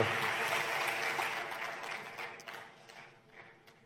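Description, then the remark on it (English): An audience applauds a presentation by Ola Cabs, with a dense patter of clapping that starts full and steady, then gradually thins and tapers off over a few seconds, with no voices over it. “Well, let's give a great, great round of applause for Ankit and Ola Cabs.”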